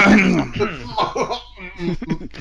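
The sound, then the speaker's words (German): Someone clears their throat with a short, rough burst, and then speech carries on right after it. “Räuspern, das müssen wir noch üben.”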